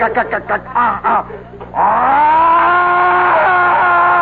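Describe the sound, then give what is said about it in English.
A voice imitates a car engine revving up: a few choppy sputtering bursts, then a long, loud, sustained whine that climbs steadily in pitch like an accelerating car. “This car went, and it's faster and faster. It was insane. It was like a siren, you know.”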